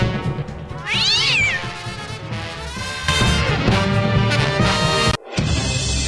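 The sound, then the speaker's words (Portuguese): A cat yowls loudly and repeatedly in drawn-out, wavering screeches, harsh, over a busy background that cuts out briefly near the end before the yowling returns. “Solta o rabo do gato!”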